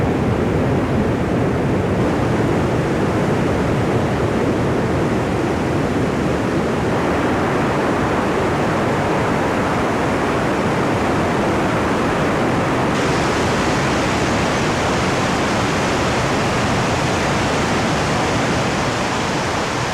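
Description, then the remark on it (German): Water gushes out of karst spring holes when water inside overflows after long rain, in a steady, dense roar, loud, holding unbroken for the whole stretch with only slight shifts in brightness and no voices. “Die Quellen kommen von Rosa runter und wenn innen sozusagen das Wasser übergeht, ja, wenn es eben so lang regnet, dann kommt es bei diversen Löchern raus und das sind dann die Lierger.”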